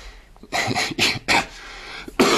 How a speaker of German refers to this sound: Verzeihung, mich hat ein Husten. Man hört es wahrscheinlich auch. Bin etwas angeschlagen.